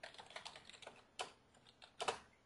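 Quiet computer keyboard typing while writing program code: a quick run of soft key clicks, then a pause and a few sharper, louder keystrokes spaced apart. No one speaks.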